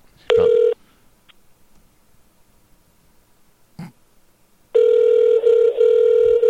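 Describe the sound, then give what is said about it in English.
A phone line tone sounds briefly, followed by a quiet pause and a soft click, then a steady electronic ringback tone starts and holds as a call is placed to a man's cell phone. No one speaks. “But he does have a cell phone now, so let's try that.”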